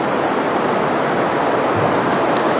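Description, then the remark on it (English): Heavy rain pours down in a steady, dense hiss that stays constant throughout, with no breaks, distinct drops or voices. “And I think it's kind of ironic that it's raining like this”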